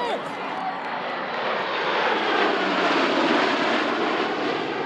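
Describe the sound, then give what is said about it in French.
A Swiss-made Pilatus PC-21 turboprop trainer aircraft, used to train fighter pilots, roars steadily overhead, loud, its broad engine noise filling the whole clip with a slight swell in the middle. “Pilatus, l'avion fabrication suisse pour l'entraînement des pilotes de chasse.”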